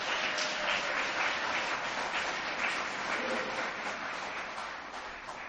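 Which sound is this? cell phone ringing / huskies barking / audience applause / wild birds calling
audience applause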